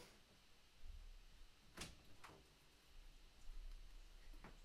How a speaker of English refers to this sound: My dog is in the background. She's whining. She wants to get into the room. So let me just open the door so that she can come in and join.